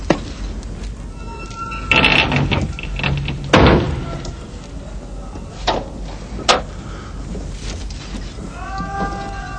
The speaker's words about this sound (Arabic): أغلق الباب.